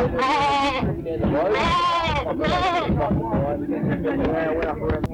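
A goat bleats loudly, several wavering cries one after another with hardly a pause, over a steady low rumble of background noise.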